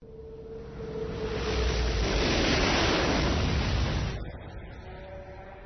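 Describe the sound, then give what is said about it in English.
Ocean water surges in as a single rushing wave, building to a loud, broad wash before falling away, leaving a quieter lapping background with faint tonal sounds. “Obi-Wan felt his head and shoulders breach the surface of the lightless ocean”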